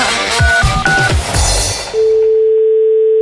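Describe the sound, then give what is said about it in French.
A steady telephone ringing tone hums clearly on its own for over a second, after a brief burst of handling clatter and two short electronic beeps, as a call is placed to a bakery. “Et puis, ils sont tellement contents de m'avoir au téléphone.”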